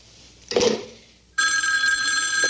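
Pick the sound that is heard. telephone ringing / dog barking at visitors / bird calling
telephone ringing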